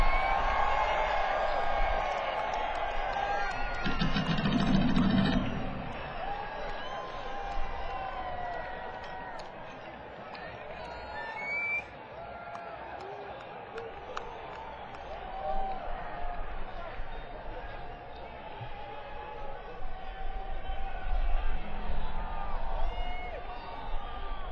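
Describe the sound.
A rock concert crowd yells and shouts in a steady, dense roar of many overlapping voices, with occasional whoops rising above the din throughout.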